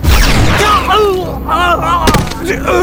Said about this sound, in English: There was the pulse of a high-yield energy weapon.